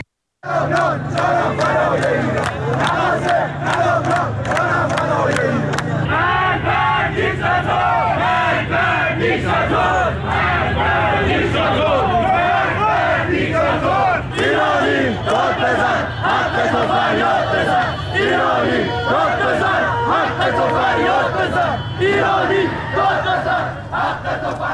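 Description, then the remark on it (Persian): A large crowd of protesters in Gohardasht, Karaj, Iran, chants mostly political slogans in unison on the fourth consecutive day of protests, a dense, loud wall of many voices with rhythmic, repeated shouted phrases that continue steadily for the whole stretch. “بر اساس ویدیوهای تازه‌ای که در شبکه‌های اجتماعی منتشر شده، معترضان در شهرهای تهران، شیراز و گوهردشت کرج در حال سر دادن شعارهایی با مضامین اغلب سیاسی مشاهده می‌شوند.”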